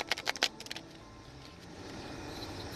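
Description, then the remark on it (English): A quick flurry of crisp papery snaps as a deck of tarot cards is shuffled, lasting under a second, then fading to a quiet, steady hiss with no talking. “I'm shuffling now, and I will take the three cards off the top to kind of give me an idea of the storyline”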